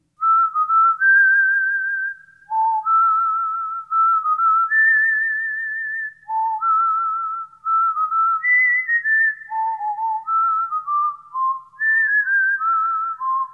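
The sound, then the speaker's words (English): A bright, clear whistled melody carries a catchy tune, with distinct sustained notes hopping up and down at a steady, lilting pace, fairly loud with no talking. “That's a catchy little tune.”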